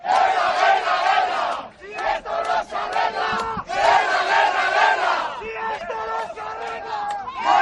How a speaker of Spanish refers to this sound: Es el grito de guerra precisamente de los taxistas madrileños